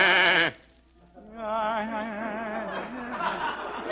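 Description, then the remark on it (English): Imported sheep being brought in bleat loudly, a short wavering cry followed by a brief pause, then a longer, sustained quavering bleat that continues to the end. “I am just bringing in some of Don Leo Carrillo's new imported sheep”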